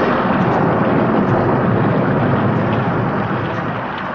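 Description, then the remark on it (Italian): A loud, continuous rumble of thunder following a lightning flash during heavy rain rolls steadily through the whole stretch, deep and dense, with no voices present and only a slight easing toward the end. “Il tuono che seguì sembrava il rullo di un tamburo.”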